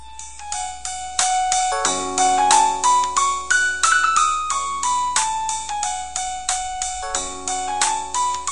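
A hip-hop song plays as a phone ringtone, with a steady beat and a bright, looping melody running continuously at a fairly loud level, with no talking over it.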